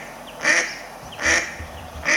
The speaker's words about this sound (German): Und das sind eben häufig Mischformen. Okay, verstehe. Aber die quaken genau wie die Stockenten. Und das machen wir jetzt mal vor.